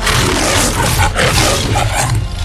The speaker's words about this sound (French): Et donc, voici la Metro-Goldwyn-Mayer. Déjà, vachement fort pour un lion de faire des bruits d'instruments.